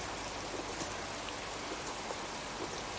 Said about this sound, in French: Il pleut toujours comme cela ? Toujours. C'est dommage. J'aurais aimé me faire une idée du paysage. Mais avec cette pluie...